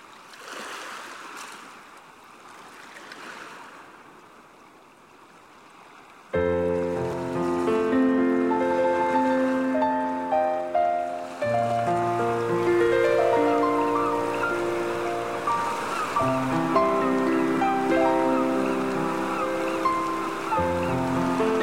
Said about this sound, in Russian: Садится на песок морской, спокойно голову положил на старый челн и не тревожил его уже накат злых волн.